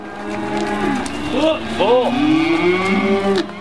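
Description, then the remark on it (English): Several calves bawl and moo in overlapping calls, rising and falling moans, with a steady noisy background and no talking; calves being weaned at a ranch in Sand Point, with the bull calves taken off and put on feed. “is weaning calves at the Bar VX Ranch in Sand Point”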